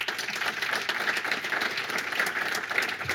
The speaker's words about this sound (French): Et puis merci également au public. Encore une fois, vous pouvez vous applaudir.